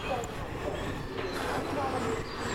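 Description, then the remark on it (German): A train heading toward Volksdorf rolls through a station without stopping, with a steady, loud rumble and a metallic hiss that stays constant throughout, with faint indistinct voices mixed into the din. “Attention, Zug fährt durch. Richtung Volksdorf.”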